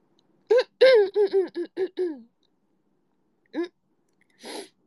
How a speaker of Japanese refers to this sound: まずくしゃみしてきまーす。